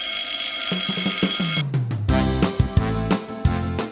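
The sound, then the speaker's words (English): A loud electric school dismissal bell rings continuously with a harsh metallic clatter, mixed with some background noise and thumps, filling the whole stretch without any speech. “Well, kids, the dismissal bell is ringing.”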